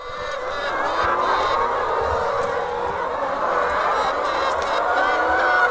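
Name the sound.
flock of hens clucking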